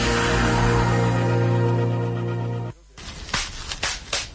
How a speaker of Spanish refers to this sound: ¿Lo oyes? Sí, papel de burbujas. Es escucharlo y querer explotar una burbuja, otra y otra sin parar.